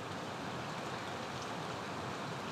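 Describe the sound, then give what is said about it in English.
Steady, even hiss of rain falling outdoors by a lake, heard from under a boulder, a dense wash of fine patter with no distinct drops standing out, moderately quiet and continuous throughout with no voices. “And that's why I stop and swim in the lake and sit under this boulder and watch this rain.”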